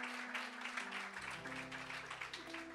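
An audience claps their hands to the Lord in a dense, steady patter of applause that lasts throughout, while sustained organ-like tones hold underneath. No one speaks.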